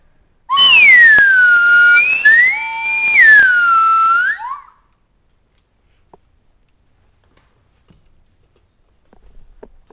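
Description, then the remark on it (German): A flying parrot lets out loud, shrill whistling calls that swoop up and down in pitch for about four seconds, followed by near silence with a few faint clicks. “Der Papagei fliegt.”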